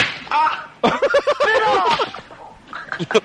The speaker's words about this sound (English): Slap it out of you.